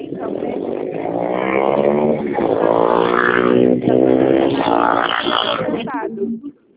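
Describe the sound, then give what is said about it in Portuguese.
A loud motorcycle engine roars for several seconds, its pitch shifting as it passes through traffic beside a person on a phone call, heard over a narrow phone-line sound before fading at the end. “Não entendi nada, querida, porque eu tô no trânsito. Passou uma moto aqui gritando.”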